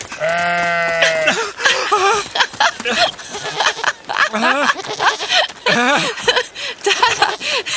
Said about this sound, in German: Das Monster, das ist ein Ziegenbock. Tatsächlich, ein Ziegenbock mit richtig langen Hörnern und einem Halsband.